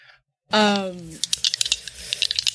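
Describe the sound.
A brief voiced exclamation, then a quick, irregular flurry of sharp little clicks and clatters as dice tumble across a hard table, settling over about a second.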